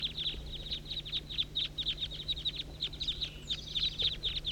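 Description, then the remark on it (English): A large flock of about 25 birds circling overhead, calling together: a dense, continuous chorus of high, sharp chirps overlapping in quick bursts, fairly faint, with a low steady hum beneath and no talking. “Good grief, there must be 25 birds. Recording the major part of the flock here.”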